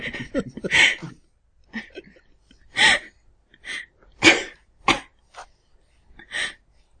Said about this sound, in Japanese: よ、待ってました。 咳込むの待ってました。